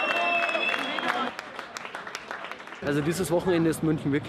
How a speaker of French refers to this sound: Écoutez, c'était à la gare de Munich, les Syriens se font applaudir par une foule venue leur souhaiter la bienvenue.